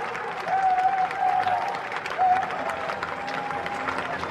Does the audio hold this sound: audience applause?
yes